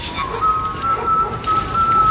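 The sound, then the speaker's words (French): The character Omar Little whistles a slow tune, holding long, steady notes with slight shifts in pitch, clear over a constant hiss of background noise. “Bon, si l'air ne font pas toujours la chanson, je peux vous dire en tout cas le sifflement fait Omar et que quand on entend Omar qui siffle, on sait que Omar est là et que ça va barder.”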